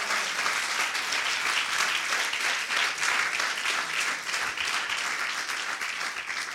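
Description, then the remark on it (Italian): A church audience bursts into sustained applause for the Lord during a sermon, a dense, steady wash of many hands clapping at once, holding at an even loudness for several seconds with no voices standing out. “Dai un applauso al Signore.”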